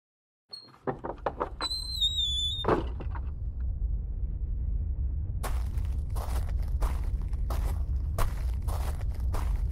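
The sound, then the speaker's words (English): A door clunks and creaks open onto a rooftop, followed by a steady low wind rumble outdoors and a series of sharp, regular footsteps crunching. “Just shut up and open the door before my legs fall out.”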